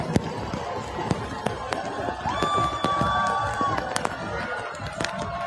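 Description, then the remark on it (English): Rain falls steadily on Fifth Avenue in a constant hiss, with scattered sharp drops pattering and cracking loudly. A murmur of people runs underneath, and a sustained high tone sounds briefly midway. “You can really hear the rain in the audio on this one.”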